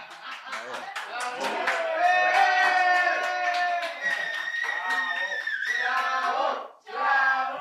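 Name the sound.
applause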